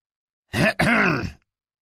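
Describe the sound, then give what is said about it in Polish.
A man walking alongside a woman clears his throat once to get her attention, a short two-part rasp with a brief catch in the middle, fairly loud against silence. “Mężczyzna idący obok Kendry odchrząknął, by zwrócić jej uwagę.”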